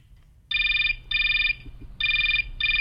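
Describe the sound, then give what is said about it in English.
A telephone ringback tone on an outgoing call repeats in steady bursts, each short electronic trill about half a second long separated by brief gaps, heard clearly over a low background hum. “Just have to make one more phone call.”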